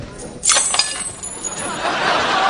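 Bright metallic clinks and jingles of coins being handled, a quick cluster of sharp taps followed by softer rattling and shuffling noise.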